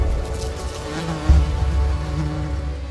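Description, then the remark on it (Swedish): A fly buzzes steadily for a few seconds, a low droning hum with a faint bump in loudness midway, with no voices present. “Din hand som närmar sig är långsam som en glaciär för flugan.”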